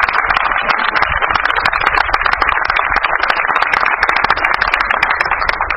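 A crowd applauds loudly and steadily for the country's flower producers, a dense wash of many hands clapping at once that holds an even level for several seconds with no voices standing out.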